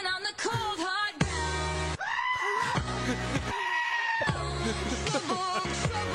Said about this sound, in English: It doesn't sound like that. He's a goat. Dude, that's incredible. Wow.